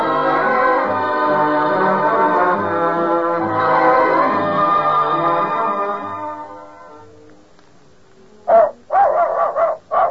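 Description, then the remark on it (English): In a radio commercial for Gaines dog food, several dogs bark in a quick cluster of sharp, loud yaps near the end. This follows a long stretch of sustained, whining tonal sound that fades out before the barking starts. “Happy, healthy dogs speak for Gaines, G-A-I-N-E-S, Gaines complete meal that nourishes every inch of your dog.”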